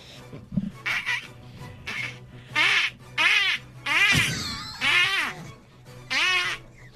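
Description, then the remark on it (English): A duck call, as used for duck hunting, blown to produce a series of loud, nasal, buzzy quacks in uneven bursts, about seven in a row, with no talking over them. “Hey, sit there, a duck comes over and you blow its freaking head off with a shotgun.”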